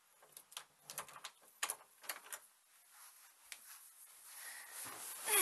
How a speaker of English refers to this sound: No, I can talk. Just one sec. Let me just get the door.